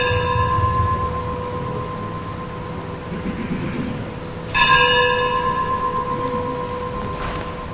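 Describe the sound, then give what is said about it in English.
A church bell rings with a long, resonant hum, struck once at the start and again midway, each toll lingering and fading slowly. It is fairly loud, and no one speaks. “I couldn't hear completely full question because of the bell.”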